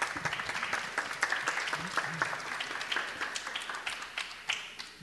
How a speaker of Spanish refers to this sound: Un aplauso para el compañero, por favor.